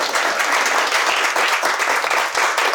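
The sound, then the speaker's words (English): A crowd breaks into steady applause, many hands clapping in a dense, continuous patter that holds at an even, fairly loud level for a few seconds. “See, that deserved the applause, not the first line.”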